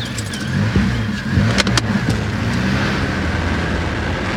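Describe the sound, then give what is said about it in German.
A car engine rumbles low and steady from start to finish, with a brief clatter of keys or a door latch midway as the vehicle pulls away to drive to the other side of a lake. No voices are heard. “Nach einem kurzen Blick darauf entschloss ich mich, in meinem Wagen auf die andere Seite des Sees zu fahren.”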